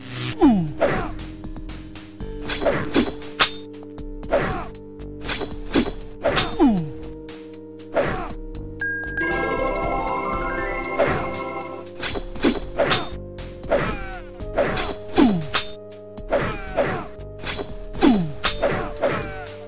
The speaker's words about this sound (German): Dieser Dreiklang, wenn unsere drei Helden nacheinander angreifen, zwei mit Schwertern, eine mit der Armbrust, das klingt dann Schlag, Schlag, Klick, Schlag, Schlag, Klick